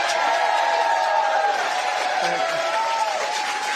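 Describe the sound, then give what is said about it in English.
A large crowd claps and cheers steadily for Virginia Governor Glenn Youngkin, a dense wash of applause with overlapping shouts and voices, loud and sustained without any break. “A round of applause for your governor.”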